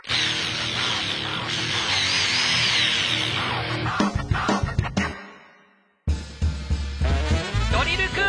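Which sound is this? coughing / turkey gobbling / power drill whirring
power drill whirring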